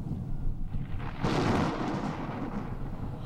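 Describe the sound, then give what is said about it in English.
A deep rumble of thunder swells suddenly into a loud, broad roar, then slowly rolls and fades into a low, lingering grumble. No voices are heard. “The crowd crowd standing there heard the voice, and some of them said it was thunder, while others said an angel spoke to him.”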